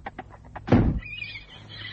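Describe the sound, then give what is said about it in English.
A few soft thumps, then a heavy burst and the horse Crusader's high, wavering whinny as he screams with excitement, trailing on for about a second, loud, with no one speaking. “Crusader was screaming with excitement as he saw her.”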